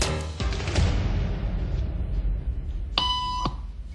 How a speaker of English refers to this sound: Did you hear that? These people sure did. It doesn't take long for our test subject to notice a pattern. Beep means stand up. But why? And if you were in her shoes, what would you do the next time the tone sounds?